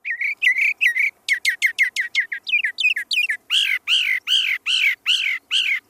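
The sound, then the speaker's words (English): Birds singing in rapid, repeated high-pitched phrases: quick clusters of sharp chirps, then a run of louder, evenly spaced downward-slurred notes. No voices, with quiet background in the gaps. “And so listening to them and hearing their voices really expresses this passage of time and the moment when, you know, things are trying to renew themselves.”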